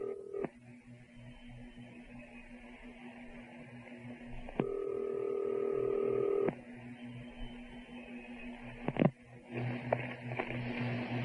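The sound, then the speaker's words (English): A telephone line hums with a steady tone, then a long electronic ring sounds over the receiver, followed by short dialing beeps; no one speaks. “Let's call him up right now.”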